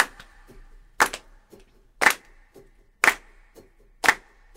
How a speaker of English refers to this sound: All right, everybody, we're going to clap like this.